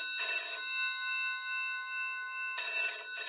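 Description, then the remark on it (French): An old-fashioned telephone bell rings for a call to Marcel Bloch from the ministry of deportees, in two loud, rattling bursts separated by a pause, its metallic tone hanging in the air between rings, with no voices. “Un jour, Marcel reçoit un étrange coup de téléphone.”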